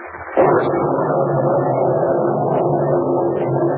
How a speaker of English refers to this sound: Miss Kent, listen, that hailstorm is still going on.